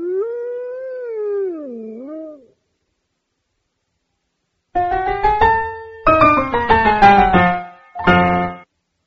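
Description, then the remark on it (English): A wolf lets out a single wavering howl, then after a short silence comes a louder, choppy run of overlapping howls and yelps, with no talking. “The wolf ate all the sheep.”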